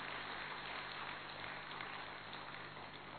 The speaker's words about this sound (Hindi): और तो खुशी की बात है तो ताली तो बजाओ ना, जरा कमाल है।